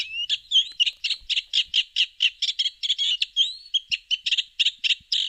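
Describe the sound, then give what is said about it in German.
A Eurasian reed warbler sings a continuous, chattering song of rapid repeated notes and churring phrases, clear with no other sounds, in the Enger Bruch nature reserve, a bird-watching area in the Herford district, Germany. “Über 180 Vogelarten sind hier bereits nachgewiesen, darunter wichtige Brutvögel wie Rebhuhn und Kiebitz oder, hier zu hören, der Teichrohrsänger.”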